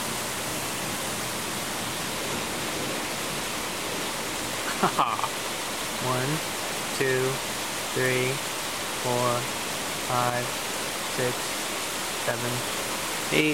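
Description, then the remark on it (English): Steady, dense hiss of heavy thunderstorm rain on the East Coast runs unbroken throughout, while a person chuckles and laughs in short bursts over it every second or so in the latter half, each chortle marking a flash of lightning. “Thunderstorm.”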